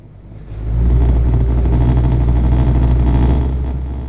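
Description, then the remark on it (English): A small flat-bottomed boat's outboard motor catches after a quiet moment and settles into a loud, steady, low-pitched drone, holding its rumble to the end with no voices; an oyster farmer's morning ride to Stump Sound on the North Carolina coast. “starts up his flat-bottomed boat and begins his daily 15-minute ride to Stump Sound on the North Carolina coast.”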